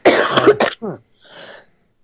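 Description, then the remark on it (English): A loud fit of harsh coughing at the end of a poem reading: a quick cluster of bursts, then a strained throat-clearing rasp and a softer wheezy breath trailing off, with no talking. “Coughing attack there at the end.”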